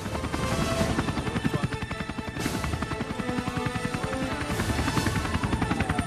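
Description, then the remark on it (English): A helicopter, its rotor beating in a fast, steady chop over a loud turbine roar, with no voices, as it hovers low over a mall and settles down in a busy shoppers' car park. “helicopter hovers over Los Felix Mall and lands effortlessly in a busy shopper's car park.”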